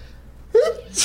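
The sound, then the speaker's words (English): A single sudden sneeze: a brief voiced intake bursting into a sharp, hissy expulsion at the end. “Bless you.”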